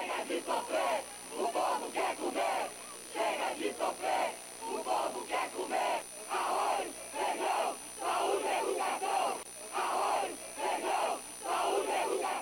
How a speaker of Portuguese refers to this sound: Na hora em que o presidente vai pela primeira vez à sacada do palácio, a vaia é intensa.